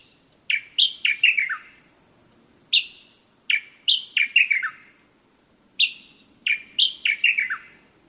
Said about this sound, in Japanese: 鳴き方がホトトギスに似ているということで、エゾホトトギスの別名があるエゾ潜入ですが、北海道の人たちはこの鳴き声をジョッピンカッタカッと聞きなしていました。ジョッピンは鍵のこと、鍵はかけたかという意味です。